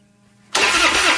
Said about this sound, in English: Nothing is more frustrating than a dead battery. When your truck won't start or your boat or ATV leaves you stranded far from home, that's not good.